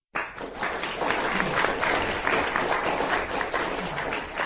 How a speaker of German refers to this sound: Der Applaus gilt dem Vortrag von Detlef Brandes